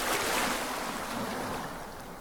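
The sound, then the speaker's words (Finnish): Steady watery wash of small waves lapping against the shore of the Sea of Galilee, with a soft breeze blowing over the microphone, continuous, no voices. “Siirrytään nyt yhdessä 2000 vuotta taaksepäin Galilean meren rannalle.”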